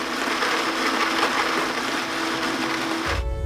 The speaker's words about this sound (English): Activating blender.